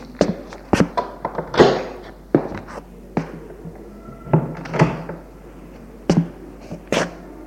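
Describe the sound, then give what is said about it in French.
A guest bedroom door is handled and opened, with a scattered series of sharp thunks, taps and knocks of varying loudness across several seconds, and no voices. “Sylvain ouvre la porte de la chambre.”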